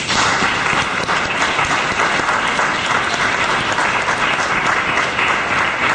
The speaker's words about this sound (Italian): L'applauso non è per me